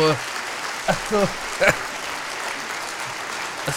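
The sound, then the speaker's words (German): Steady, dense applause fills the whole stretch, a continuous hiss of many clapping hands, with a few short voiced shouts or whoops rising briefly above it partway through. “Also, das ist dein Applaus.”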